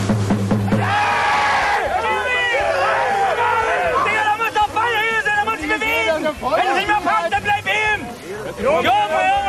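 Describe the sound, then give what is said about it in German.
A small crowd of spectators at a hard-fought Kreisklasse (district-league) amateur football match involving Fortuna Oetsch shouts and calls out at once, overlapping voices rising and falling in excited bursts, steady throughout. “Insgesamt war es ein sehr, sehr kampfbetontes Spiel. Das merkte man auch an den Zuschauerreaktionen.”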